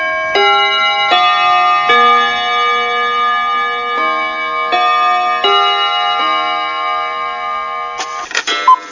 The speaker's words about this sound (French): Bon dimanche matin sur les montres qui marchent et au carillon de Radio Bonheur.